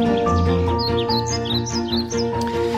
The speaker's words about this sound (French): Alors, sont-ils en grève, les oiseaux? Eh bien non, non, non, heureusement, ils sont là, ils ne sont pas rancuniers. La bande son du monde emplumé, roucoule, zinzinabule, comme le hibou bubule, cocarde, de bavarde, bref, ils parlent le piaf.